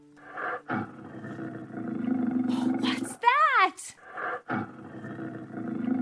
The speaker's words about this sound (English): Oh no, it's a lion. Let's run.